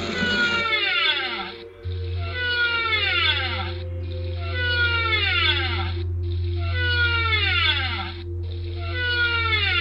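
Whale song rings out in repeating cycles of swooping, descending cries, returning roughly every two seconds over a steady low rumbling drone, with no voices present.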